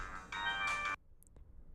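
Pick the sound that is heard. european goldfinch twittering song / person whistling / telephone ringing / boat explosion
telephone ringing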